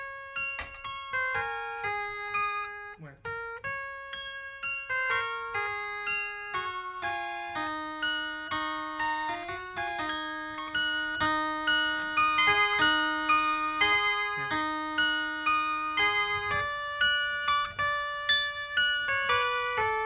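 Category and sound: household object, wind chimes tinkling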